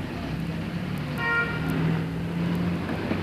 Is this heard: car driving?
yes